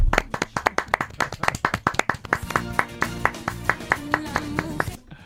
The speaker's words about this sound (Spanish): Oye, ¿te parece que le demos el aplauso del día también a la barra de Sevilla? Venga, la barra de Sevilla.